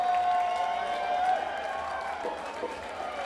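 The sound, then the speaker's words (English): A large concert audience in Colorado applauds and cheers in a steady, dense wash of noise, with a sustained tone ringing underneath and indistinct voices mixed in. “I'm saying the best Colorado crowd yet, so we thank you.”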